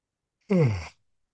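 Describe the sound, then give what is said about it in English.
A single breathy yawn with a voiced tone that slides downward in pitch, lasting about half a second before fading out into silence. “Another yawn, and I'll get started.”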